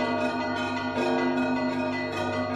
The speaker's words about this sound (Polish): Możemy też na przykład wyjść na dzwonnicę, podzwonić sobie. Na Ukrainie u mnie było takie i na samą górę tak dzwoniłam tam.